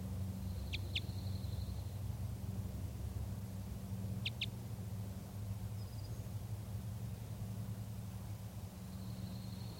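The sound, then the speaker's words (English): A female bird, foraging on new shoots of lodgepole pine halfway down to a net, gives short, sharp, high-pitched flight calls, mostly in quick pairs, spaced a few seconds apart over a steady low background rumble. No one speaks. “And starting to give some kind of a vocalization. Sounds like a flight call.”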